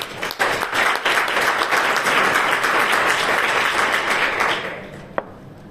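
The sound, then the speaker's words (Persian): An audience applauding themselves, a dense wash of many hands clapping steadily for about four and a half seconds before fading out, with one sharp clap near the end. “و خودتو تشویق کنیم.”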